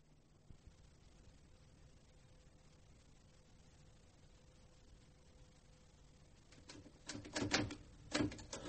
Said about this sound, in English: I'm not very fast at typing figures.